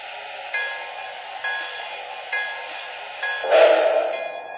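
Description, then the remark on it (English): Passenger train number 30 idles on track one at a station platform as a bell rings in a steady rhythm, about once a second, over a constant mechanical hum, with a louder burst near the end. “On track one, train number 30.”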